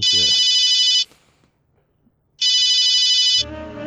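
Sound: mobile phone ringtone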